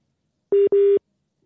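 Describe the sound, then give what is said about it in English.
Two short electronic phone tones sound back to back, steady and clear, like a call dropping out, followed by silence. No one speaks. “All right, that sounds like that's all he had time for in terms of his data, maybe in his phone.”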